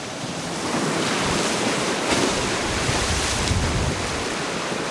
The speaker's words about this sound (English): I watch the waves devour the beach and begin pounding the bluffs, cutting deep notches into the base. Then, one by one, the bluff faces slide off in whole sheets.